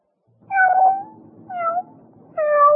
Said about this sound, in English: Can you tell which of these cats is not well? Many felines hide outward signs of illness, making life-threatening diseases difficult to detect.